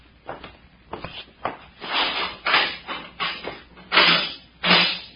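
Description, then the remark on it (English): A key scrapes and rattles in a lock, with a few sharp clicks followed by louder bursts of metallic jostling and shuffling as the door is worked open. No one speaks. “Here is the key to it. Unlock it.”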